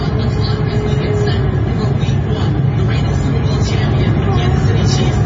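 A large crowd at an NFL game between the Kansas City Chiefs and the Detroit Lions boos loudly and steadily as the so-called black national anthem is played, a dense roar of many overlapping voices with drawn-out low jeering tones that holds for several seconds without letting up.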